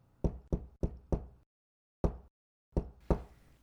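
Firm knocks on a door: a quick run of four, a pause, then a single knock and two more, each sharp, with nobody speaking.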